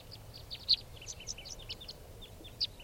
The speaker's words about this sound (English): Now they're on the truck, scared up by a swallow flying around now. Calling more, now coming back. And now they're all five are down on the ground. They're going into the wild birds.